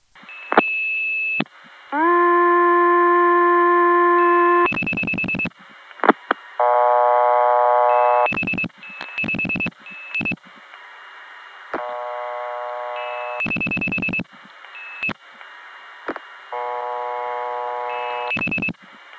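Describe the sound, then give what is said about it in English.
A series of steady telephone dial tones separated by clicks and bursts of switching noise as codes are dialed to build a call stacked through a tie line network through Benson, Vermont, each tone a little quieter than the last until the final ones are barely audible. “and I'll dial a code, which will lead to another, and the dial tones will keep getting fainter and fainter because it's actually building a phone call, stacking so far down that by the last one you can barely even hear the tone.”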